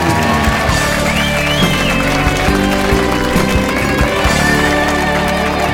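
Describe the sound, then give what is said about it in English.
A crowd claps and cheers steadily for several seconds, a dense, loud wash of applause with a low, tonal hum running underneath throughout. “give them a huge round of applause, everyone.”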